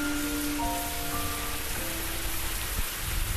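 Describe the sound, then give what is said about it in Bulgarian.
Shower water runs in a steady, continuous hiss with no breaks, a faint tonal hum threading underneath. No one speaks. “Ти почети, аз набързо ще си взема един душ.”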